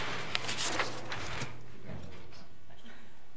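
A chair scrapes and slides across a hard floor for about a second and a half at a council meeting, a rough grinding sound that then fades into quiet room noise.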